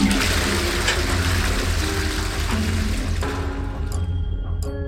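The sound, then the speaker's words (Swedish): A toilet flushes loudly, a steady rushing surge of water that gradually thins out into trickling and refilling sounds toward the end, as a bottle of pills emptied into the toilet is flushed away. “Du tömmer pillerburken i toaletten. Och spolar.”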